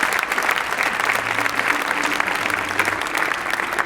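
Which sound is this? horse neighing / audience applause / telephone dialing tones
audience applause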